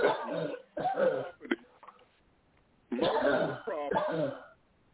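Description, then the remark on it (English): Harsh bursts of coughing and throat clearing from a participant on a conference call line, several in a row with a brief pause, sounding thin and band-limited as if coming through a telephone line. “Whoever's coughing, please mute your line.”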